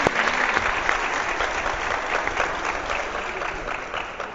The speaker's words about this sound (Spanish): Un aplauso para los miembros de la Peña Cultural del Limón.